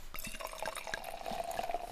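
Sparkling wine pours steadily into a glass, a continuous fizzy, crackling stream whose tone rises slightly as the glass fills. No one speaks.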